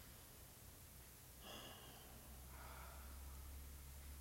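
Slow, deep therapeutic diaphragmatic breathing for relaxation: a short airy inhale followed by a longer, softer exhale, quiet, over a faint low background hum with no talking.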